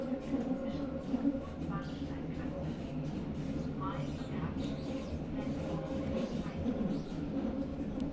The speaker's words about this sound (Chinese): 你那边地铁挤吗？我还坐着呢。你像我一样吗？从起点站坐到终点站？